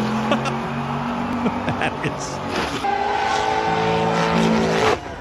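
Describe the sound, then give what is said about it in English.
A car engine drones steadily and loudly as a driverless car is sent off a cliff, its pitch shifting upward partway through as it speeds off, with people's voices talking underneath the mechanical roar. “So they're just driving it off a cliff?”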